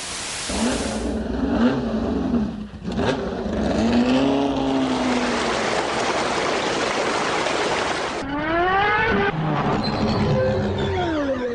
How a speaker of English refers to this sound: Now, I'm sure well-attuned World Service listeners will know that was the sound variously of white noise, a sports car, a waterfall, and it says here pod racers from the Star Wars films.